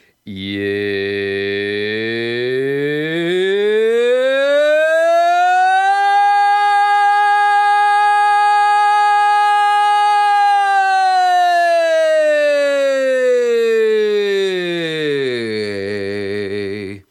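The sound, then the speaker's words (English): A single voice sings a double siren vocal exercise, starting on a randomly chosen note, gliding smoothly up about an octave, holding the high pitch steadily, then sliding back down to where it began. Loud and sustained, with no talking. “So start on your initial pitch, slide up an octave, hold, and then slide back down to your initial pitch.”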